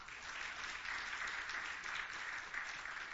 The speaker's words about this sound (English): How about a round of applause for our pianist?